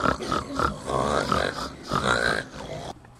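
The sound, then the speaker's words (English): A rapid series of pig grunts and oinks, fairly loud, overlapping in busy bursts for about three seconds before cutting off abruptly. “The gingerbread man ran down the road when he came to some pigs.”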